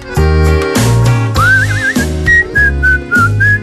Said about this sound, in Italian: Fischi bene.